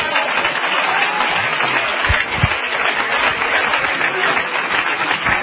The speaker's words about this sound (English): Somebody ought to clap their hands.